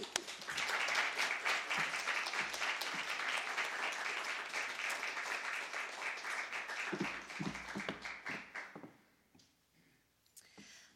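Sustained applause from an audience, dense clapping that holds steady for several seconds, then thins out and fades to a few scattered claps and quiet.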